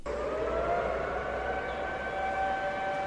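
A steady, sustained wail of sirens and horns from cars, trains and ships sounding together in Wuhan, Hubei province, China, to mourn those who died from the coronavirus; several held tones layered over a low rumble, continuous and loud for the whole stretch with no voices.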